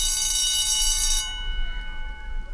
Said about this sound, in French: Lundi, sonnerie.